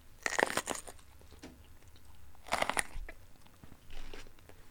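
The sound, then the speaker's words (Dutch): A loud crunchy bite into a bell pepper that has a mandarin inside, followed by a second sharp crunch and softer wet chewing in between, with no talking. “Ik begon met deze paprika die is eigenlijk geïnspireerd op het verhaal over het alter ego. Als ik een hap hier uitneem.”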